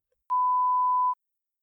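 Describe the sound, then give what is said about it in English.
A single steady electronic beep at a fixed mid pitch, clean and moderately loud, lasting just under a second, the kind of tone that signals an exam answer prompt, with silence around it. “When you hear a beep, answer the question.”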